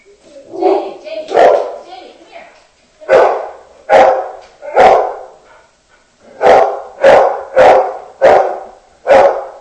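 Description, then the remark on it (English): A dog named Jamie barks loudly at whoever is at the door, about ten sharp, forceful barks in uneven bursts, with short pauses between groups and a quick, steady run of barks at the end. “Jamie always wants to attack and kill whoever's at the door.”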